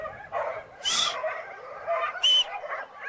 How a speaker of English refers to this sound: And if I whistle, be able to whistle. Will he stop? Yeah. Immediately. Try him now.